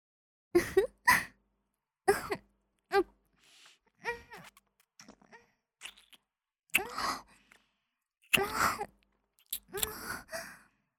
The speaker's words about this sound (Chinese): 老公，你是不是很舒服啊？我都听到你的喘息声了。